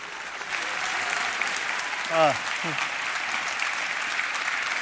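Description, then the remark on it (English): Steady applause from an audience welcoming author, activist and anthropologist David Graeber to the stage for his talk fills the whole clip, a dense, even wash of clapping, with a brief voiced cheer or whoop rising out of it midway. “Please give him a great round of applause and welcome him to the stage.”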